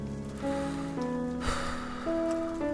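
Steady rain hisses throughout at an even level after thunder and lightning, underneath sustained musical tones that shift pitch every half second or so, with a brief burst of noise near the middle.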